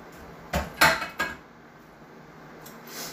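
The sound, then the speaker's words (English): Three sharp metallic clanks of a frying pan and dishes knocking together as the pan is cleaned in an apartment, clustered in the first second, followed by a quiet background hiss and a faint scrape near the end. “Gotta clean a frying pan here.”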